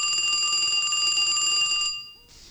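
An old-fashioned telephone bell rings loudly for an incoming phone call in one continuous metallic trill for about two seconds, then cuts off, leaving a brief quiet moment with a faint hiss.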